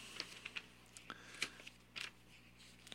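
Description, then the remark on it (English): A paper page being turned while searching for a scripture: a handful of soft, crisp crinkles and rustling flicks spread over a few seconds, with no one speaking. “just turning the page so I can find”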